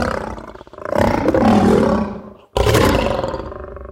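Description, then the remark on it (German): A lion growls and roars loudly, two deep, rumbling bursts separated by a brief silent gap, the second starting abruptly and trailing off. “Oder die Autorität von einem knurrenden Löwe.”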